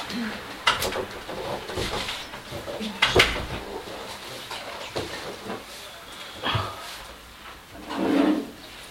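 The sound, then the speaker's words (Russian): A door shuts with a solid thud partway through, preceded and followed by a few lighter knocks, while birds chirp faintly in a hissy indoor background. “Поэтому дверь закроем, окошко оставим открытым, да?”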